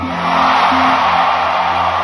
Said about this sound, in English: Well then, I mean, I can hear you guys screaming, singing, shouting, so I'm hoping for this next song you guys will do just the same.